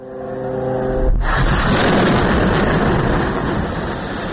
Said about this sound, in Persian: غرش جت‌های جنگی اسرائیل و سپس صدای چندین انفجار. این وضعیت دیشب نیز در نوار غزه ادامه داشت.